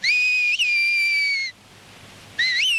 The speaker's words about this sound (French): le langage sifflé est une modulation du dialecte local, le béarnais